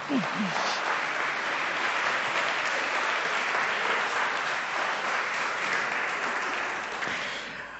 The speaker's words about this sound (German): Wer ist nach 2010 geboren? Hier. Ja, ihr kriegt auch einen Applaus.